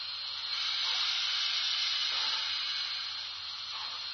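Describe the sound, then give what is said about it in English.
A steam locomotive hisses steam in a steady, unbroken rush for several seconds, loud, with a faint low engine hum underneath and no voices. “So I'll have to keep plenty of steam up for the grade.”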